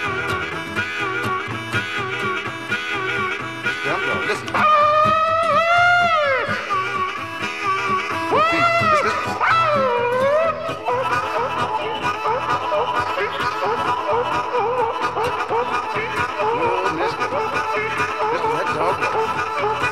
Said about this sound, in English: But listen to that baby roar. Listen to it run. Listen, may well sit down here and take a rest. Them dogs might run all night long. Listen.